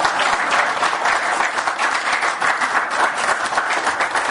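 Steady, dense applause from an audience, many hands clapping in a continuous crackling wash that holds at an even, fairly loud level for several seconds with no voices over it.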